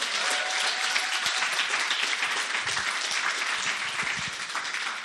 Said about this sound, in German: Hey, für unser Deko-Team, das ein paar gute Stunden hier verbracht hat und sich bemüht hat, den Frühling hier ins Haus reinzuholen, können wir ein Danke sagen und einen Applaus geben?